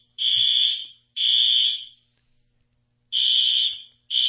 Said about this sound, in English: Hang on, folks. It looks like we've got a fire alarm going off here.